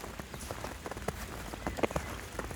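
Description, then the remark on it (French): Steady patter of water droplets and falling rain, with many irregular soft taps and a few sharper, louder drips standing out over a continuous wet hiss. “Ces sons de fonte agréables, gouttelettes d'eau, feuilles humides, mouillées, tapis de neige fraîche.”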